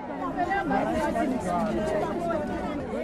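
A crowd gathered at a municipal office in Soweto to complain about shoddy homes built by the ANC-led council chatters at once, many overlapping voices in a dense, steady babble with no single speaker standing out, moderately loud throughout.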